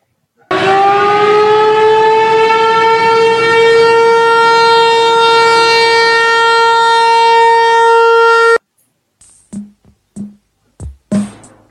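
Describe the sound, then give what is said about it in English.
A loud siren blares at a steady, rich pitch for about eight seconds, then cuts off abruptly, followed by a few short, quieter bursts of voice. “let's sound the sirens.”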